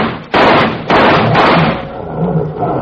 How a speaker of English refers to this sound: That's good. Those roars should fetch them.